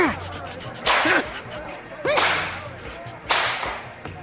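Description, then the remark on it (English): Three sharp whip lashes crack at a steady, evenly spaced rhythm, each a loud, bright snap that trails off quickly, over a low background murmur with faint vocal sounds between strikes, as Paul and Silas are severely flogged on the magistrates' orders. “After they had been severely flogged, they were thrown into prison.”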